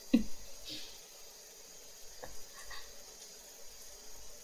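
Soft, wet licking and squishy mouth sounds of a tongue licking around an ear, a few irregular smacks spread over a quiet, hissy background with no talking.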